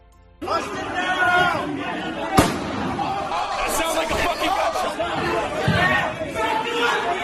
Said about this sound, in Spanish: Es el sonido del caos, el disparo que acabó con la vida de una de las asaltantes.